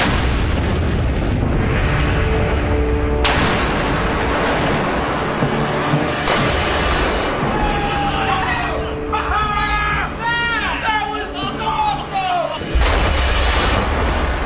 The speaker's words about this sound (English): Given that that's the biggest explosion we've ever done, why isn't it the fan favorite?